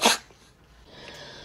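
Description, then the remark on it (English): A single sharp sneeze, set off by a tomato eaten during a full English dinner, bursts out loudly right at the start, then trails into quiet background noise with a faint breathy hiss. “Oh, I've got the sneezes from that tomato.”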